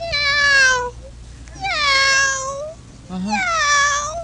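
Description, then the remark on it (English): A contestant in a contest imitates a very young kitten, giving three high, thin, drawn-out meows that slide downward in pitch, each separated by a short pause, clear against a faint background hum. “Very young little kitty cat.”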